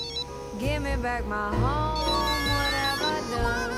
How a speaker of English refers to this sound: As she opens the door, she turns on hearing the cell phone, which rests on her bag on a chair.